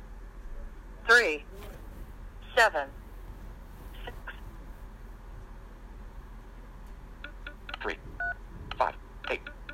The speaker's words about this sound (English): For security purposes, please enter the following number on your phone's touchtone pad.